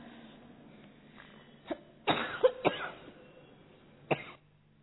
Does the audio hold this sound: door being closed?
no